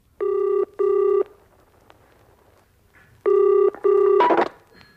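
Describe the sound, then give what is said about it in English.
A telephone rings in two double bursts, ring-ring, a pause, then ring-ring again, a thin, buzzy tone as heard down a phone line on a tape recording of a phone call, ending in a rough click as it is picked up. “It's a tape recording of a phone call.”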